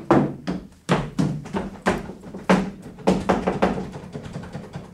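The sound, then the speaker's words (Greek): Someone repeatedly rattles and bumps the locked door of their brother's room, a series of dull thuds and knocks in an uneven rhythm, fairly loud, with no voices. “Δεν ανοίγει. Γιατί είναι κλειδωμένη η πόρτα του αδερφού μου?”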